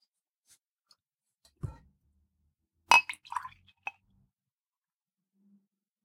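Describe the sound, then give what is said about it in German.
A dull thud, then a bright clink of two tiny glasses, followed by a short flurry of lighter glassy taps and a final tick as a drink is poured into them, with no talking. “Kratze über dieses Bett und finde auch zwei winzige Gläser. Sehr gut. Truly perfect. Dann kannst du tatsächlich doch mal einschenken vom Mikrofon.”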